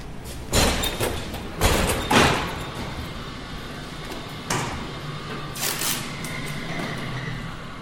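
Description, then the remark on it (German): An automated AWT hospital transport cart, a large silver container on rollers, passes through a silver arch into the next facility: a few heavy mechanical clunks and thuds, spaced unevenly, over a steady low machine hum and faint rattling, with no voices. “In diesem AWT-Wagen geht es durch einen silbernen Bogen in die nächste Anlage.”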